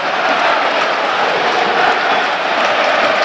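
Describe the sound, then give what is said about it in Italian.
A dense, steady roar of a large football crowd at the Tardini stadium in the final minutes of Parma-Torino fills the whole clip, loud and unbroken, a wash of many fans' voices cheering and clapping with no single voice standing out. “calcio d'angolo per il Parma che adesso ci crede, mancano 5 minuti alla fine, sale Hernani, Valeri chiede l'incitamento dei tifosi, del pubblico, del Tardini.”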